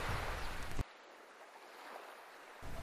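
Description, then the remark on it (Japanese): Outdoor seaside ambience at the newly opened DejiQ Umikara barbecue site, in the sea-fishing park parking lot next to Umikara, with a steady wash of surf-like noise, loudest at the start and end with a quieter stretch between. Nobody speaks. “さて、実は今日は4月27日にオープンしましたデジキュー海からバーベキュー場からこのラジオをお届けしております。”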